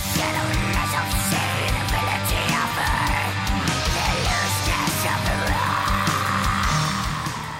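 Raspy, snarling mid-range black metal vocals howl continuously over dense, loud distorted guitars and pounding drums, the harsh croaking voice sitting right up front in the mix.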